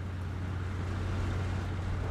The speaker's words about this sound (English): The battered family car cruises along the road.